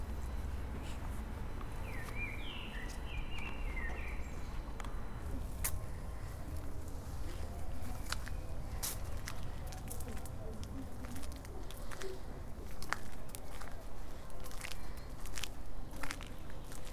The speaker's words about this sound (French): T'as vu les oiseaux, ils te répondent. Je vous croirais qu'il y a un hibou.